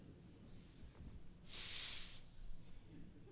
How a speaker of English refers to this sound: I'm just going to lift the top of the jar and sniff the cookies. Is that all right? I want everybody's attention. I'm just going to sniff. I'm going to feed on the aroma of wonderful cookies.